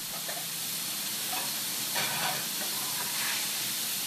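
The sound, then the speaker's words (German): A piece of veal for a schnitzel sizzles steadily in a frying pan in a restaurant kitchen, a dense crackling hiss with brief louder bursts of spitting fat, fairly quiet, with no voices. “In einer Pfanne brutzelt das Stück Kalbfleisch, das in ein paar Minuten als Schnitzel auf den Teller kommt.”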